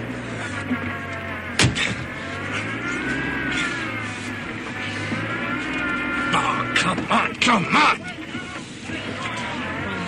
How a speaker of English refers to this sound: The engine's cold. Come on, you brute.